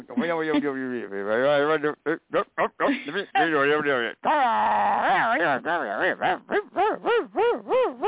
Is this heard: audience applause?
no